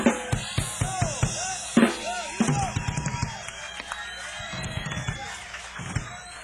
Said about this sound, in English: I thank you very much for your appreciation and applause